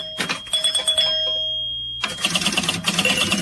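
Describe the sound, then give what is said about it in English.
A pinball machine clatters and rattles in busy bursts, with sustained bright bell-like electronic tones ringing over the mechanical noise, a brief low hum in the middle, then another dense flurry. “That's a pinball machine.”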